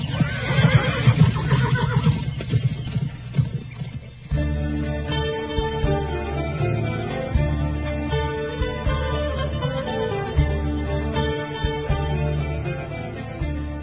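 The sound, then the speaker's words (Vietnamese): A horse whinnies loudly for a few seconds at the start, then steady background music takes over for the rest. No one speaks. “Tên ăn cướp nghe xong, không nói gì nữa mà đánh ngựa đi mất.”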